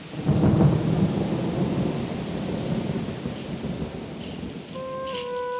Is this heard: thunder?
yes